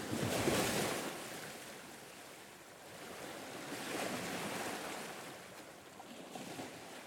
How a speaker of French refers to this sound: Aujourd'hui, je suis allée à la mer. La mer, c'est comme une immense piscine. C'est impressionnant. Il y a des vagues qui roulent sur le rivage. Et d'autres qui frappent contre les rochers.